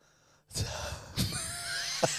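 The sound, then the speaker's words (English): Heavy breathing with sharp gasping inhales, roughly three noisy breaths in a row over a faint background hum, with no one talking. “You've started breathing a bit.”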